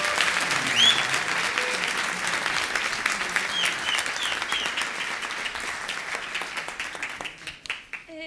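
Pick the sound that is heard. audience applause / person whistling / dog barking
audience applause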